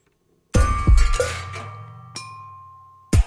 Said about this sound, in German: Die Glocken des Bergstädtchen Sannione, hergestellt in der päpstlichen Glockengießerei Marinelli.